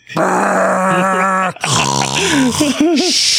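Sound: imitated loud snoring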